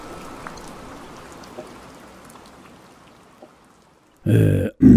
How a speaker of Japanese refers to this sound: あ、 雨。 あの、 はい、 この雨はなんて言うんですか。 春に降るにわか雨なので春しぐれです。 春しぐれ。